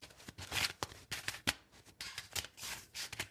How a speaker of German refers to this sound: Ich wüsste jetzt aber nicht, wenn man versucht, das echt aufzunehmen, ob das so viel besser klingt. Also, weil Kartenmischen ist ja wirklich ein leises Geräusch, wenn man das so in der Hand irgendwie durchschaffelt.